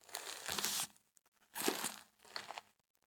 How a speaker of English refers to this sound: No, it sounds like crinkles coming down the hallway. Oh no. Sleepy girl.